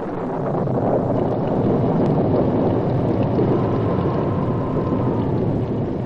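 A night thunderstorm: heavy rain pours steadily, its dense hiss mixed with a low, rolling thunder rumble that holds at an even loudness throughout, with no voices.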